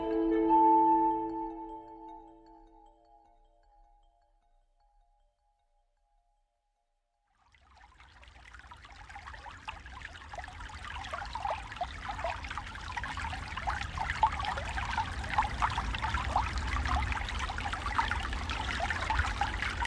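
A ringing bell-like tone fades into a few seconds of silence, then a brook starts trickling and burbling steadily, moderately loud, continuing to the end with no voices.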